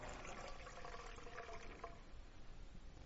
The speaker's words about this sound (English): And then He took the cup, and He poured it out.